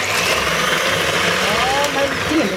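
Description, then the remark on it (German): A kitchen mixer whirs steadily and loudly for the whole stretch, a dense motor drone with a faint higher whine that wavers and rises briefly near the end. “Was ist zu schnell? Mein Mixer.”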